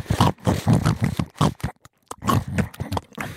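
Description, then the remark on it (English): A person mimics a pig sniffing around for truffles, making a rapid run of snorty sniffs and grunting oinks that pause briefly partway through, then carry on just as loudly. “I'd have to probably say my greatest strength is the human pig. Sniffing around for truffles, just seeing what's out there.”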